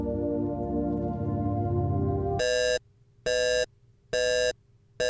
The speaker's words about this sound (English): What's that alarm for? Commander Minkowski, I'm picking up a proximity alert.